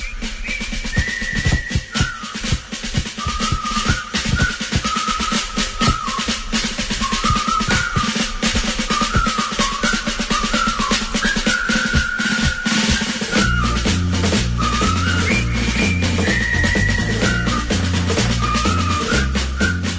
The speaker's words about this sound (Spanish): Esto que suena es una melodía que todos conocemos y sabemos silbar, los que sepan silbar. La película de la que es banda sonora, El puente sobre el río Kwai, trata de un puente que soldados prisioneros pues se vieron obligados a construir